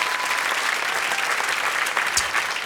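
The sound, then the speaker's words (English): Steady audience applause fills the whole stretch, a dense wash of many hands clapping at once, loud and sustained without any pause or voices breaking through. “You can applaud the pain.”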